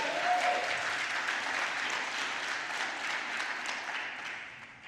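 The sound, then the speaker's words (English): A church audience claps steadily, a dense wash of many overlapping hand claps that holds fairly even before tapering off slightly at the end, with no voices speaking. “So you could clap again for that.”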